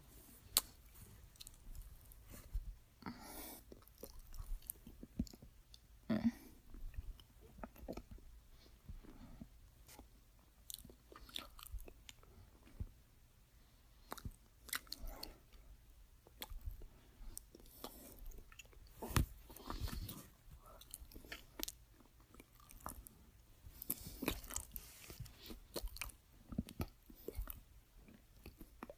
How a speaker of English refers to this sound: I love sucking your cock so much. So I just wanted you to hear how much I love it.